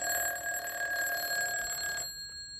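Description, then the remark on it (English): A telephone rings downstairs in a house at midnight with a steady, buzzing electronic tone for about two seconds, then cuts off. The ring sounds fairly soft, with no voices. “So fast asleep that they didn't hear the phone ringing downstairs.”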